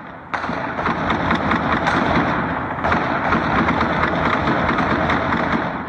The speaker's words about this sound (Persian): صابر عزیز، خبرنگار افغان، با پخش یک ویدیو از طریق فیسبوک ادعا کرده که شام جمعه این تیراندازی برای 20 دقیقه در منطقه خوشحالخان مینه در کابل ادامه داشت.